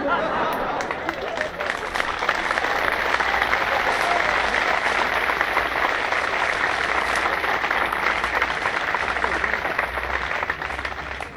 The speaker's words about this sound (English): You're all clapping today.